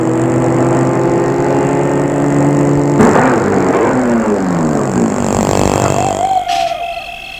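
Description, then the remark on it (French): A car engine hums steadily, then its pitch drops as the car slows and stops in front of a large property in Hollywood, idles briefly and cuts off abruptly near the end, leaving a quieter background. “Il va arrêter sa voiture devant une propriété.”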